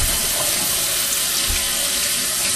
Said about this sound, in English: What I'm going to do is I have a rubber spatula. I'm going to run it under hot water. And waiting for the water to heat up.